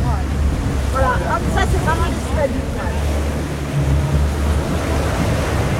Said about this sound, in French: Oui, après, vu la mer, l'état de la mer, c'est quand même extrêmement agité.